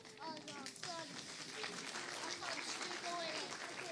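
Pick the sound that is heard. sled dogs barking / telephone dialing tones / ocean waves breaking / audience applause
audience applause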